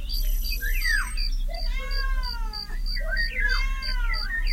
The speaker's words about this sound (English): Cat.